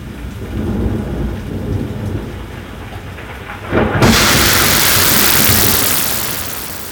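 nature, thunder with rain

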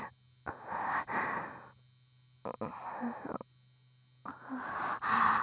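human body sound, yawn

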